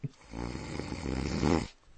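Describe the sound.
A person imitates a single long snore, a rattling, guttural rasp that builds steadily in loudness over about a second and a half before cutting off.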